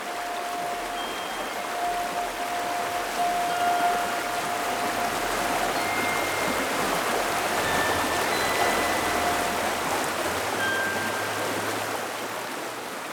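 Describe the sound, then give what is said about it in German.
A rushing brook, turning wild after stones are thrown into it, pours on in a steady, dense hiss of water that fills the whole clip at an even loudness, with a few thin, faint whistling tones drifting above it. “Die Kinder warfen Stein um Stein ins Bächlein, bis das Rauschen des Baches sich plötzlich veränderte.”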